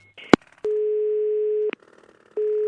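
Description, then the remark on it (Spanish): A steady electronic telephone tone sounds in two long beeps separated by a pause, with sharp clicks from the line just before and between them, as a call is dialed to a wrong number. Nobody speaks. “márcame bien, mi c***o de parió, que me estás llamando al tío este, ya lo hemos llamado tres veces.”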